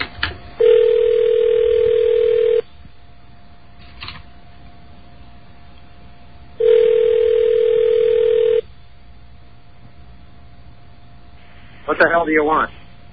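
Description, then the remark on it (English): Two long, steady rings of a phone line heard through the receiver, spaced several seconds apart over faint background hiss, followed by a brief burst of a voice answering. “Again, the phone is ringing.”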